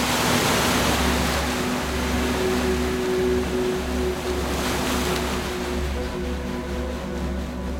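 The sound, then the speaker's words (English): A continuous wash of ocean waves rolls and swells at steady volume, with a low droning hum running beneath the surf. No one speaks. “There's just waves.”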